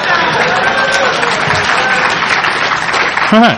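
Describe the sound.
Steady audience applause fills the room, dense clapping from many hands at an even level, with a brief voice breaking through near the end.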